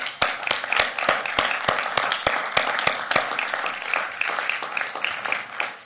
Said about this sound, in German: Ich möchte auch die gefrostete Mütter ansprechen. Einmal fetten Applaus unseren Müttern, bitteschön.